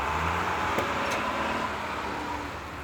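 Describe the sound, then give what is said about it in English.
A heavy garbage truck's engine rumbles steadily with road noise as the truck drives away from a dump after unloading garbage, fading slightly, with a couple of faint clicks near the start. No one speaks. “The driver unloaded the garbage and drove away.”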